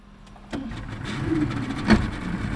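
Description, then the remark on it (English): A small motorboat engine kicks up and runs steadily, a rough mid-pitched drone with a brief louder surge toward the end, no voices; the boat is motoring out of Newport Harbor, past Goat Island. “In a much smaller boat, race announcer Andy Green motors out of Newport Harbor”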